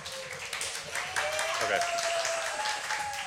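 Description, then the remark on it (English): A live audience breaks into steady applause and cheering, a dense wash of clapping that stays loud throughout, with a faint whistle-like tone running through the crowd noise. “Thanks for the audience participation.”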